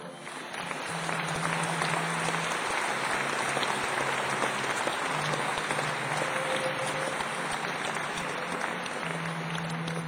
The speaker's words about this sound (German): Der es mit seinen fleißigen Helfern auch dieses Jahr möglich macht, dass wir mit Zeichen verbunden und vor allem mit … dabei sein können. Ich denke mal, das ist der Applaus wert.